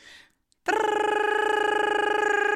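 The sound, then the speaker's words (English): A loud electronic alarm kicks in abruptly at bedtime after a brief silence, in a cupboard-sized room with a bunk bed, holding a steady, harmonically rich tone with a rapid pulsing warble that continues without pause. “And then the alarms start to go”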